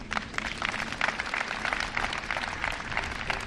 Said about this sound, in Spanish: Un minuto de silencio que finalizaba con estos aplausos.